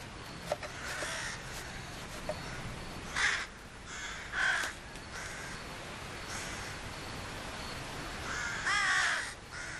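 Several sharp, short jackdaw calls ring out at irregular intervals against a steady background hiss, some louder, others fainter, from jackdaws in a busy nesting colony during nest-building.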